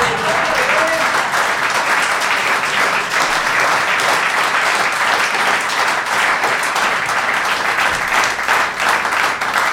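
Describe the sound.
An audience slow hand clap, loud and sustained for the whole stretch, many hands clapping together with faint crowd voices mixed underneath.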